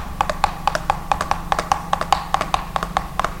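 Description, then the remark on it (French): Horses set off again at a light trot after the reins are snapped, with a steady, brisk clip-clop of hooves, sharp strikes repeating in an even rhythm over a low rumbling background. “Il fit claquer les rênes, les chevaux repartirent au petit trot.”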